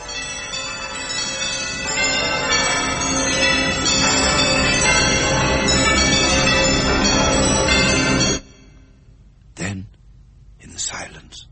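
A loud, dense clamor of many bells ringing at once throughout a huge, empty house, overlapping continuously for about eight seconds before cutting off abruptly, followed by a couple of brief, breathy whisper-like sounds.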